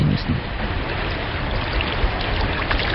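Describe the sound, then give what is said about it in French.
The Maïdoussou river flows steadily through a valley, its dense, continuous rushing filling all three seconds at an even level, with no pauses or distinct splashes. “Les sites de stockage les plus dangereux, on les trouve à proximité de la rivière Maïdoussou, qui serpente dans la vallée avant de rejoindre un affluent du fleuve Sir Daria.”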